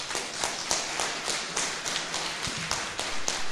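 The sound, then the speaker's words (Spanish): A crowd applauds the CEPRA team for their logistical work, a dense crackle of many hands clapping that keeps an even level for a few seconds, with a few sharper claps standing out. No one speaks. “Entonces, démosles un aplauso porque...”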